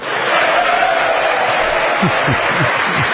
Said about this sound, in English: Oh, Nancy's clapping. She didn't hear us.